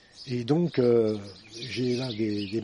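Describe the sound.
Many small birds chirp and twitter in a busy, continuous chorus at feeders hanging from fruit trees in a house garden in Auzeville-Tolosane near Toulouse, behind a man speaking, the bird calls softer and partly masked by his voice.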